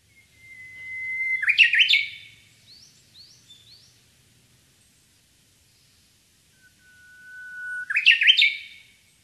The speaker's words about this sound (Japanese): ウグイスです。